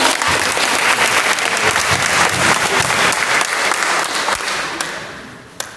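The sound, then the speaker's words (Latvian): Sustained audience applause during a pilgrimage, a dense steady patter of many hands clapping at high volume, thinning slightly toward the end with a couple of sharper individual claps. “Aplausi par to.”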